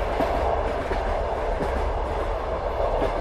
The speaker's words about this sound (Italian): Lo sentite, vero? Il rumore di quel treno sgangherato che affronta le intemperie.